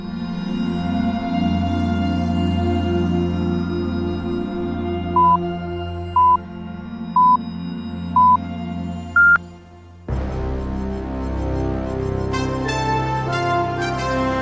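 Radio time signal on Radio Ognjišče marking 18:00: four short, steady mid-pitched beeps one second apart, then a fifth, higher and slightly longer beep, over quiet background music before a louder musical passage begins.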